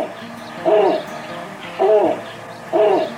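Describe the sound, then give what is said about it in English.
A snowy owl hoots three times at a steady, unhurried pace, each call a short, resonant, slightly rising and falling note, clear over a faint background hush. “Few birds are as revered and as keenly awaited every winter as snowy owls.”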